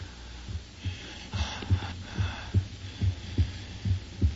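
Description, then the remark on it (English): A steady, low heartbeat of a creature coming alive thumps in a regular rhythm, each beat a muffled double pulse, fairly loud over a faint airy hiss and a brief breathy rush near the start, from the radio drama Frankenstein on Suspense. “It's breathing.”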